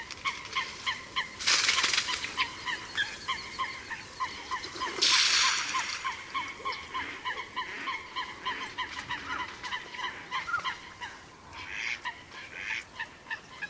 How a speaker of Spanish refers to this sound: Dos fochas disputan a gritos entre los carrizos sobre un horizonte sonoro formado por las risas de las hembras de Ana de Azulón.